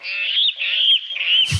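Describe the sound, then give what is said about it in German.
A water rail calls from the reeds: a run of loud, harsh, squealing notes like a piglet, in three rising-and-falling bursts, ending with a brief rustle or thump. “Das ist eine Wasserralle.”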